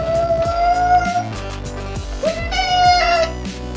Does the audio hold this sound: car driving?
no